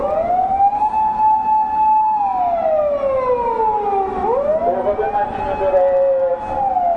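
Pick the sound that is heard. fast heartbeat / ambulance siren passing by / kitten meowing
ambulance siren passing by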